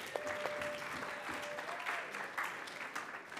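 An audience claps steadily for a few seconds, a dense, even wash of many hands with a faint tonal whistle running through the start.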